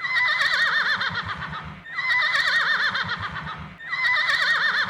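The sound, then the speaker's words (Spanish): A horse whinnies loudly three times in a row, each shrill, quavering neigh lasting nearly two seconds with only brief gaps between them, with no voices. “¿Oíste, don caballo?”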